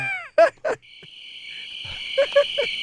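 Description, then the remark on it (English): Crickets chirp in a steady, continuous high trill, with a few short, loud croaking calls breaking in near the start and again toward the end. No one speaks. “From wah-wah-wah to crickets.”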